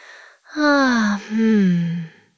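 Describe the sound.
A voice imitates the sweet, sleepy yawn of a puppy named Pip: a quick breath in, then a drawn-out, breathy vocal sound in two long falling swells, clear with no other sounds.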